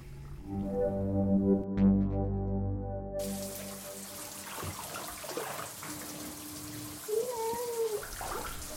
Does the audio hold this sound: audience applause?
no